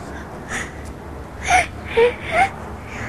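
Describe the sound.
A child makes a few short, whimpering sobs in quick succession, a playful imitation of crying, close and fairly soft against a quiet room.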